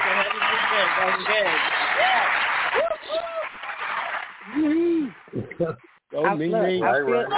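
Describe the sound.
A burst of audience applause fills the first few seconds, dense and steady, with people talking over it; the clapping fades out and the talking continues on its own.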